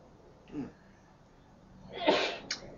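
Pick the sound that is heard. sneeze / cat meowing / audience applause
sneeze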